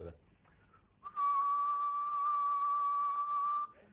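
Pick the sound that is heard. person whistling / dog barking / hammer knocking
person whistling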